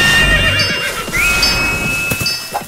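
horse neighing

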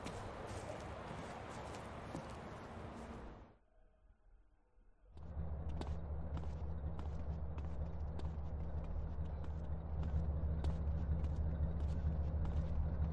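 car approaching

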